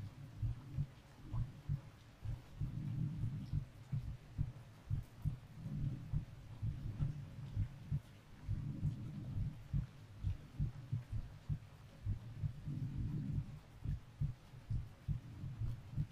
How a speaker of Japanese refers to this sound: 呼吸も鼓動も穏やかになってきた。人って人の心音を聞くだけで心が落ち着くんだよね。